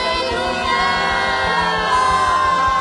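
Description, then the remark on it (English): An audience shouts and cheers loudly and continuously for the Lord, a dense wash of voices with whoops rising over a steady rhythmic low pulse of music beneath. “Let's shout out loud. Hallelujah.”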